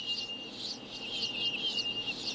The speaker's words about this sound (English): we're gonna listen to the sonically reversed version. And, you know, a lot of music, when you play it backwards, you get all of these kind of artifacts with a... But, you know, listening to this, these birds, they sound pretty much like birds.